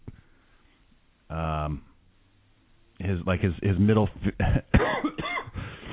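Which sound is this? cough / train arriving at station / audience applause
cough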